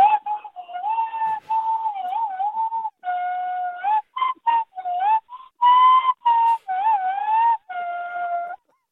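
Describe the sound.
A person whistles a flowing melody imitating a pan flute, performing in the Tradies Got Talent contest on Triple M radio; a clear steady tone with short pauses and slight bends between phrases, carrying on for several seconds with no talking.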